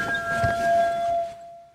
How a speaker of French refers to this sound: Le son des sirènes.